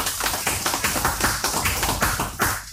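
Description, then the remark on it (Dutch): An evening audience in Zuidoost applauds a speaker from the Amstel Gooi en Vecht water board. The crowd claps steadily, a dense, even wash of claps with a few sharper peaks, fairly loud and lasting about three seconds, with no voices over it. “Een applaus voor Stefano Stoppel.”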